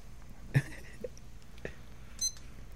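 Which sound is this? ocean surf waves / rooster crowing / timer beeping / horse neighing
timer beeping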